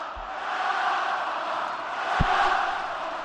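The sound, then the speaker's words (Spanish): A packed arena crowd at the Martín Carpena pavilion in Málaga gives Rafa Nadal a standing ovation, a dense, steady roar of cheering and applause that holds loud throughout, with one brief low thump partway through. “El pabellón al completo, Pilar, ovacionando a Rafa Nadal.”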